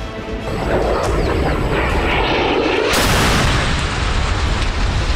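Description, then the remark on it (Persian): A loud Hellfire missile strike explosion, fired from a drone at a vehicle carrying Qasem Soleimani and al-Muhandis near the exit of an airport security zone: heavy rumbling roar builds, then a sharp blast bursts in partway through and leaves a sustained, crackling roar of debris with no voices. “موشک‌های شلیک شده از نوع هلفایر بودند.”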